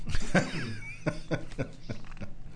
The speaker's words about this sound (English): Excuse me, I had to clear my throat there for a second.